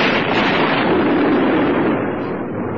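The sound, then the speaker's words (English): A loud explosion inside a building rumbles and roars steadily for a few seconds, a dense, booming blast that eases slightly at the end. No one speaks. “Sometime later, there's an explosion from the building's interior.”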